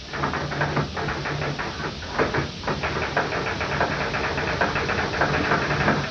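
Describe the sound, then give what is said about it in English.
A voice imitates a typewriter typing a few jokes, producing a steady stream of rapid, irregular clicks and taps like keys striking, running unbroken for several seconds over a low, steady hum. “I was wondering if you could impersonate a typewriter typing a few jokes for us.”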